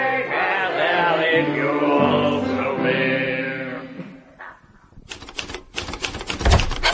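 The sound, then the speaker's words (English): A sustained tonal, music-like passage fades out, then rapid typewriter keystrokes clatter in an uneven burst of sharp mechanical clicks for the last couple of seconds as a letter of resignation is typed. “And what are you typing?”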